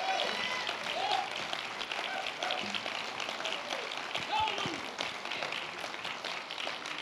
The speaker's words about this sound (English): Give the Lord a big clap. Come on. Dale a Dios un gran aplauso.